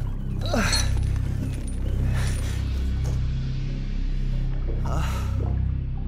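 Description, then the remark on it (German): A metal chain holding a man bound with leather straps clinks and rattles in three short bursts, spaced a couple of seconds apart, over a steady low rumbling drone. No one speaks. “Er spürte die straffen Lederriemen an den Handgelenken und um den Leib und das Klirren der Kette, die ihn festhielt.”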